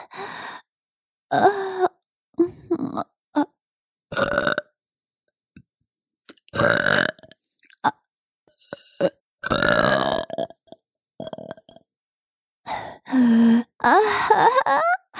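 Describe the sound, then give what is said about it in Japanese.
A series of loud milk burps after drinking milk, some short and others drawn out and groaning, separated by brief silences, with no talking. “それじゃ、ママのミルクゲップ、ちゃんと召し上がれ。”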